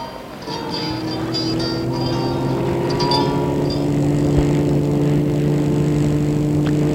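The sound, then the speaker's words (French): A red sports car's engine turns over and catches within the first second, then settles into a loud, steady rumble with a slight rising hum as it pulls away. No voices. “Et la voiture démarre.”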